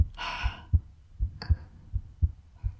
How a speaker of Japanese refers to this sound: ママの心臓の音、なんだか落ち着かない？